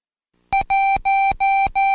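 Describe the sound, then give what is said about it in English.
Five steady, evenly spaced telephone keypad tones for the digit one, each a loud two-toned beep separated by brief silent gaps, with no voices; the final tone is cut off. “Next, turn the card over and trace the number one as I key it and repeat, I won, won, won, won each time you hear the code.”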